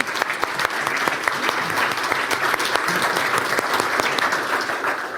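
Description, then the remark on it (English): A crowd claps steadily for about five seconds, a dense, even patter of many hands with sharp individual claps poking through, loud and sustained without fading. “I think we should give, they're in the room, I think we should give them a hand of applause.”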